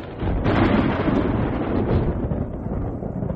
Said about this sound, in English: The sky opened suddenly and rain poured down. "What in the world? Where did the storm come from?" Suddenly, there was a flash of lightning.